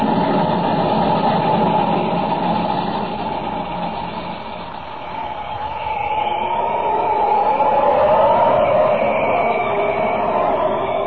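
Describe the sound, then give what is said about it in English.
A train locomotive crossing a bridge runs steadily, its heavy engine giving a continuous, loud rumble with a mechanical drone that swells slightly toward the end. No one speaks. “The train ahead. She's practically across. When the locomotive reaches the other side, the bridge supports at that end will be blown up.”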